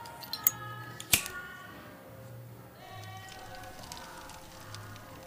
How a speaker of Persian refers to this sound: یونس با فندک کاغذ کتابو آتیش میزنه